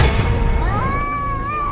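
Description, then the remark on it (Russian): A person imitates a cat's meow while role-playing: one drawn-out, wavering mew, clear, rising and falling in pitch after a brief muffled rumble at the start. “И так подойти, мяу-мяу, и сказать ему ближе.”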